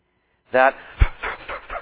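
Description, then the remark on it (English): A person imitates a dog panting heavily after sitting down during a walk: a brief voiced whine followed by a steady series of quick, breathy huffs. “And so when I'd say, okay, we're going to sit now, sit under some tree or somewhere out in the middle of the walk, sit down, and the dog would be just breathing, you know, so heavily.”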